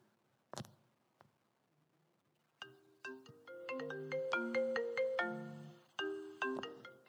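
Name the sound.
phone ringtone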